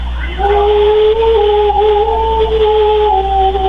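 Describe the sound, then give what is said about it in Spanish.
An agitated dog howls in one long, sustained, wavering cry that rises at the start and holds steady, loud, with a constant low hum underneath and no talking. “Ve el perro nada más que alterado.”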